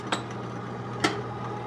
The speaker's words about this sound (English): The cabinet with dishes, too. It comes down like an elevator.